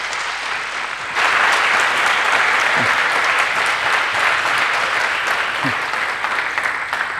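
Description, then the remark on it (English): An audience bursts into steady, loud applause after a quiet second, welcoming a speaker giving a talk on the art of creating an escape room; dense clapping sustained evenly to the end, with a couple of faint whoops rising through it. “So please give a warm, welcoming applause to him now.”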